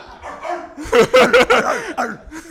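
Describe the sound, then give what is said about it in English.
A few people imitate dog barks with their voices, a quick burst of loud, overlapping woofs and yelps, mixed with some laughter. “And they bark.”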